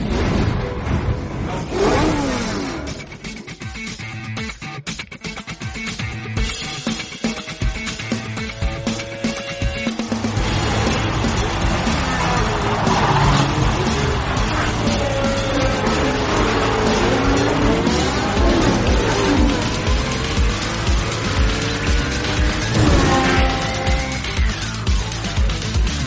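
A car, the Septicar, approaches as its engine roars and revs repeatedly, its pitch sweeping up and down. It's loud and steady, with no voices, and a whooshing rush runs beneath the revving.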